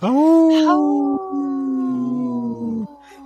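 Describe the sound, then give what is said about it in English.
A person imitates a wolf howl: one long, loud howl that starts high, settles into a steady sustained tone for about three seconds, then drops away. “Hey, this portion's brought to you by Hauling for Wolves, protecting wolves for future generations.”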